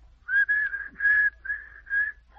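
A single person whistles a short tune in five sustained notes with brief breaks between them, fairly close and clear, with no talking during the melody.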